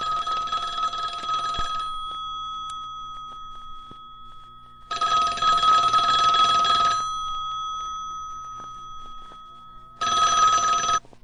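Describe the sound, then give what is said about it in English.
A telephone bell rings in loud, jangling bursts of about two seconds, three times, with short quiet pauses between them and no one speaking, as a call placed through an operator rings through. “You are ringing a Plaza 9459”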